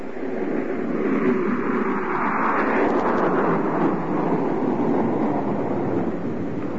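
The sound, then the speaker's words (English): A train pulls up at a station with a steady, heavy roar of engine and wheels that holds at a constant loudness throughout, with no voices. “Just as the train pulled up at the station, the detective arrived a few seconds too late.”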